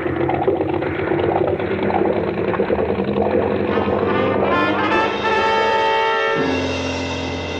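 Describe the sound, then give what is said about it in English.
Two big boat engines run loud with a steady, rumbling drone, their pitch climbing partway through before settling into a strong, even hum. No voices are heard. “And two red-hot manifolds absorbing all the heat of the two big engines.”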